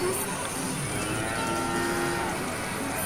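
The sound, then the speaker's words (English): Cows moo in long, low, drawn-out calls inside a pachinko parlor, over a steady, dense background din, the mooing sustained and fairly prominent throughout. “Yeah, are there cows in this pachinko parlor?”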